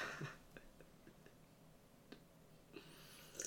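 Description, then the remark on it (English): A quiet sip from a drink: soft slurping and breathy intake, with a few faint mouth clicks scattered in between and a brief airy slurp near the end, no talking. “That was my sip. That was my first sip of the year.”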